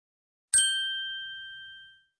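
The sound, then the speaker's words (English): A single bright bell strike rings out clearly, its metallic tone sustaining and slowly fading over about a second and a half, with no voices present. “Listen, the bell is ringing.”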